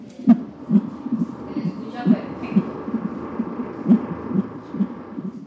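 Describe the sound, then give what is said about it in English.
An unborn baby's heartbeat on a monitor at a hospital, fast rhythmic whooshing thumps repeating steadily over a low hum, moderately loud with no one speaking. “And for some of them, it was the first time they could listen to their baby's heartbeat.”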